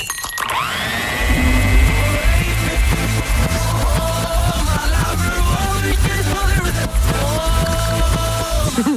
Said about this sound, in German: Achtung, der Mixer springt an.